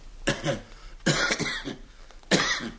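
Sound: man coughing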